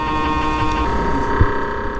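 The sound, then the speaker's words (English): An imitation of an MRI brain scanner's constant hum: a steady, buzzing drone with layered tones that holds evenly for two seconds, with a brief soft bump near the end. “There's, like, a constant, like, you know, kind of, like, hum thing.”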